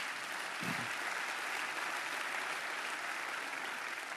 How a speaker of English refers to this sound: Because I'll tell you what, if you got a call, go ahead and clap for that. Go ahead.